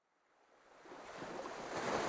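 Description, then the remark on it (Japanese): Soft waves of a calm night sea wash and hiss around a small breakwater, swelling gradually from near silence into a steady, broad surf sound with no voices present. “穏やかな夜の海に浮かぶ小さな防波堤。”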